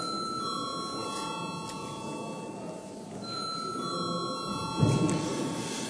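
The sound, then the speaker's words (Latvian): A bell rings steadily to call a vote in a parliamentary sitting, after deputies demand a vote on amending the day's agenda, a sustained high-pitched tone holding for several seconds over a low murmur of room noise, with a brief thump near the end. “Deputāti prasa balsojumu, lūdzu zvanu.”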